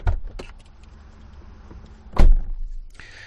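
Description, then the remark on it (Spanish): Someone gets into a car: a couple of sharp clicks and rustling, then a solid door thunk, followed by a brief mechanical whir as the cabin settles. No one speaks. “Déjeme que salude, mientras nos montamos en este coche, a un buen amigo de esta casa”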